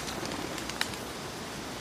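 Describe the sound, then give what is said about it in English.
A pigeon takes off with a quick run of soft, papery wing flaps and one sharper clap midway, all faint over a steady hiss of background noise. No one speaks. “This pigeon just taking off in disgust.”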